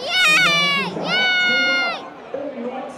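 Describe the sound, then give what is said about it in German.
A group of children on the Joe Enox children's stand at an Osnabrück football match on World Children's Day lets out two loud, high-pitched cheering shouts, each lasting about a second, before fading into a softer murmur of crowd noise. “Wie jubelt ihr, wenn Osnabrück trifft?”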